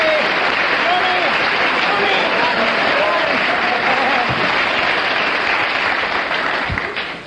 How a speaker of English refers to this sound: I'm going to ask the audience to show approval by their applause, and we'll judge on the audience applause before I take the marks off.